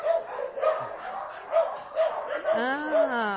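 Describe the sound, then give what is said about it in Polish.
A small, knee-high black and tan dog with a white chest marking, caught as a feral dog and now being socialized with people, frightened, gives about six short, high yips at a steady pace, then slides into a drawn-out whining whimper near the end, with faint voices murmuring underneath. “Pies sięgający do kolana, z białym krawatem, czarny, podpalany, przepiękny, z dużym strachem w oczach.”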